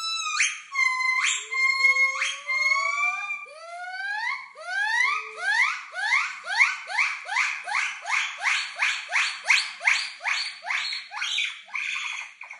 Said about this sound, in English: this week's noisy is the territorial call of some white-cheeked gibbons